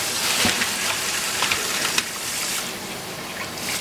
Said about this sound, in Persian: وقتی مغز برنج خام بودش، یعنی هنوز پخته نشده بود، اون موقع زمانیه که ما برنج رو میتونیم آبکش کنیم. ما به سرد باز میذاریم و بعد برنج رو میریزیم داخل سبد.